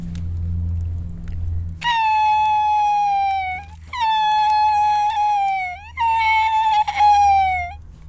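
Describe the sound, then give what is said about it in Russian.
A loon's wailing cry after it has missed a fish: three long, mournful notes in close succession, each held about two seconds and sagging slightly at the end, clear and fairly loud over a low steady hum. “Следующий крик гагары это когда она упустила рыбу, она плачет.”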